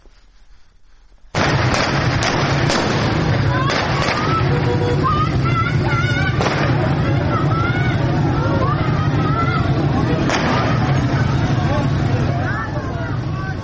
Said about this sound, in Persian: ویدیوهای منتشر شده در شبکه‌های اجتماعی نشان می‌دهد که معترضان به سوی یک پاسگاه سنگ پرتاب می‌کنند و در پس زمینه صدای شلیک گلوله شنیده می‌شود.